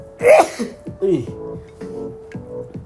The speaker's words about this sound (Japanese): やばい、くしゃみが出そうだ。